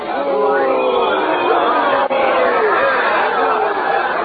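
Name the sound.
crowd cheering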